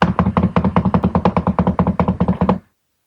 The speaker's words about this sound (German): Und währenddessen klopft es weiter und wird wieder schneller und klingt irgendwie freudig. Die Tür ist verschlossen. Es klopft weiter, so dass die Tür förmlich vibriert.